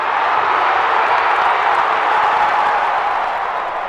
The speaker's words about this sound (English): Now there's the type of cheering that we want to hear.